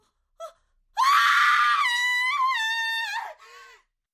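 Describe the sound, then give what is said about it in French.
A woman screams in the early morning on a vacant lot, on finding an arm sticking out of the ground: a brief sharp catch of breath, then one long, loud, shrill scream lasting over two seconds that wavers and drops in pitch, ending in a shorter, fading cry. “Une semaine plus tard, le cri d'une femme perce l'air du petit matin.”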